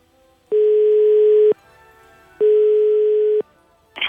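A telephone ringback tone as Radio Ognjišče calls a listener live for a birthday greeting: two steady, one-second electronic tones separated by a short pause, fairly loud and clear, followed by a brief click as the call connects.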